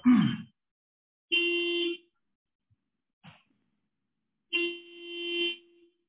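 Two car horn honks from cars around a speaker during a chaired hearing, each a steady, bright, buzzy blast lasting about a second, separated by a short gap, with a couple of brief muffled noises in between and no talking.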